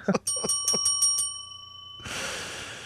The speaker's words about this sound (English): Ring the bell.